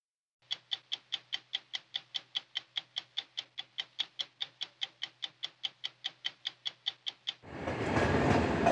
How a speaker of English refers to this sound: This is the main Polish station where 5 to 10 trains a day escape Russia's war on Ukraine. Each arrival brings 2,000 women and children compressed into standing room only.